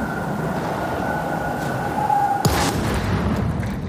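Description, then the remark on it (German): A single sharp, booming blast of a shell exploding among German soldiers bursts out over a steady low rumble and faint whine, then the rumble carries on beneath it. No one speaks. “Der Ball explodiert zwischen den deutschen Soldaten.”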